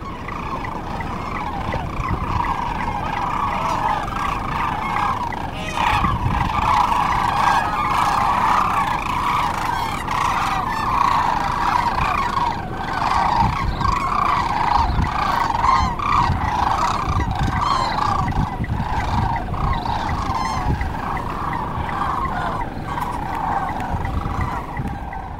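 A huge flock of sandhill cranes on a river calls all at once, a dense, steady wall of overlapping rattling, trumpeting cries that keeps going without pause. No one speaks.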